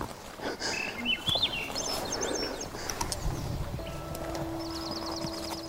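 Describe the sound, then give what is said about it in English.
Birds sing outdoors in the wooded outskirts of a Yukon subdivision in short, warbling phrases, followed by a quick repeated trill near the end, over a steady background of outdoor noise and low rumble. “Peaceful having the birds sing.”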